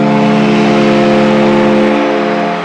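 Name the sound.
foghorn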